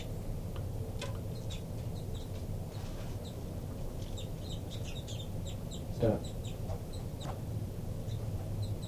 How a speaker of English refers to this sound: Recording the birds again. Begging by the baby there.